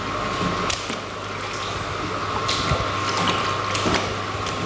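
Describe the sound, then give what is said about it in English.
Seawater is pumped through machinery into a lab in New Zealand, filling tubs that hold shellfish: a steady mechanical drone with a rushing wash, a sustained mid-pitched tone, and intermittent sharp clicks and clunks. No one speaks. “What you hear around us is seawater being pumped into the lab into tubs containing shellfish.”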